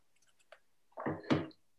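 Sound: sipping water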